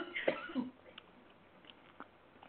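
A single sharp cough bursts out, followed by a quieter rasp and a few faint clicks.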